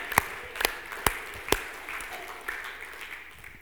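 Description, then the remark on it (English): Four sharp, evenly spaced claps ring out during a sermon on Abraham's faith, then give way to a faint, scattered patter of light clapping from the audience that fades toward the end. “If you were looking for a place to clap, that would have been a great opportunity.”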